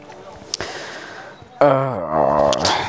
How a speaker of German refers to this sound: Oder wenn ihr Fiepsen hört, das Fiepsen ist meine Hundedame, die gerade bei mir auf dem Boden im Arm liegt und ich denke, heute Nacht sterben wird.